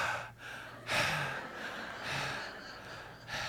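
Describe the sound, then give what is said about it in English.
A voice imitates a toddler's heavy, rhythmic mouth-breathing: several loud, breathy inhales and exhales in a steady pattern, with no talking. “And they can't breathe through their nose yet. They're breathing through their mouth.”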